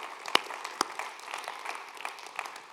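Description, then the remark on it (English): A church audience claps their hands in a steady patter of applause, with a couple of sharp, louder claps standing out early among the many softer ones. “Let's clap our hands.”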